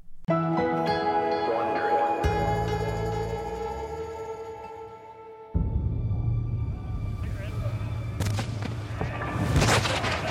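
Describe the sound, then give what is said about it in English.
A bronze cannon fires an iron ball across the bow of a merchant ship on the Mediterranean, ringing out as deep, rumbling booms, with a heavy blast and then louder sharp bursts near the end, following a sustained tonal musical drone. “The cannon boomed, white smoke blasting forth from the bronze muzzle, the sound carrying across the lapping waves of the Mediterranean.”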